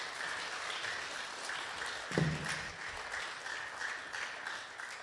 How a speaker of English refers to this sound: All right, good job. Let's give those guys a round of applause. Nice job.